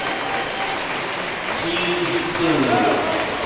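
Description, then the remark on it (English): A crowd at a high school basketball game at Chambersburg High School gives a standing ovation as a player exits after his fifth foul, with steady dense clapping and cheering voices throughout that swell a little louder toward the end. “Standing applause, standing ovation from some in the crowd here at Chambersburg High School.”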